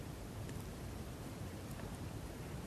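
Steady rain hisses softly and continuously, a dense wash of sound with a few faint individual drops ticking through now and then. No voices are heard.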